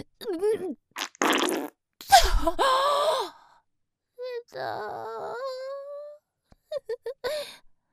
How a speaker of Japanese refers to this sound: やだ、汚いおめこゲップも出ちゃった。